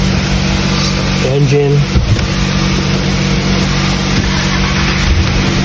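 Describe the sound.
A car engine is started to check whether the charging system voltage comes up; it turns over and settles into a loud, steady running rumble, with a brief voice murmuring early on under the noise.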